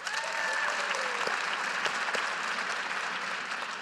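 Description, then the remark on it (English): An audience of people who have had their own business for more than five years claps steadily for a few seconds, a dense, continuous patter of many hands at moderate volume with no one speaking over it. “The level of admiration I have for everybody who just clapped, it's hard.”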